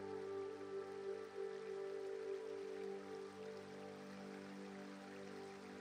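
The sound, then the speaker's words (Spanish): Steady, continuous rush of flowing river water, soft and even throughout, with a faint sustained tonal hum running underneath. “Y cuando estás trazando un nuevo sendero y cuando de nuevo vuelves a estar fundiéndote entre la naturaleza, descubres un bonito río.”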